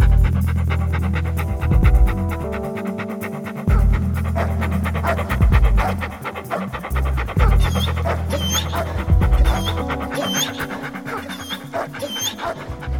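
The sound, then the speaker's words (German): A dog pants steadily, quick rhythmic huffs repeating throughout, with a low tonal hum running underneath and no talking. “Hat er jetzt einen Hund oder nicht?”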